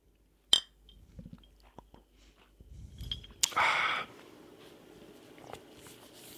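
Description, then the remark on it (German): A single bright clink of glasses touching in a toast with a freshly opened, fine-bubbled drink, ringing briefly, followed by soft handling noises, a sip and a short fizzy rush. No one speaks. “Ja, Prost. Prost.”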